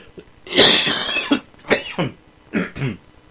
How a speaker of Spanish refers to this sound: Ay, y una tos fingida para que vean que sí estoy enfermo. Bueno, es cierto, no es fingida, sí estoy enfermo.